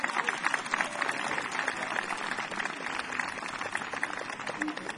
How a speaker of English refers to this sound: Oh, no, that was for me. They were clapping for me. They were like, great introduction. You did a great job introducing him.